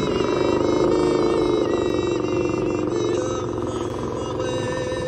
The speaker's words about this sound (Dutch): Het mooiste was dus het geluid van die leeuw. Dus die ging even terugpraten. Zo van, wat moet dat allemaal?